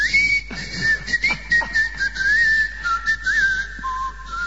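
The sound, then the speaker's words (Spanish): A person whistles a distinctive little tune, a clear, steady melody that glides up and down and drops lower at the end, heard alone over faint background noise. “¿Acaso usted le enseñó un chiflido característico del orden de...?”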